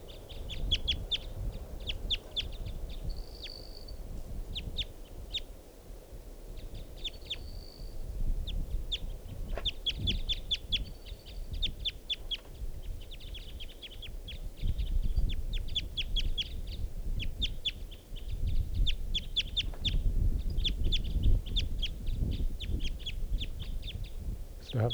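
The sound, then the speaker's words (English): A female wild bird gives a steady series of short, sharp, high-pitched clucking calls in irregular clusters, with a few brief whistled notes, over a continuous low rumbling background and no talking. “That's the female.”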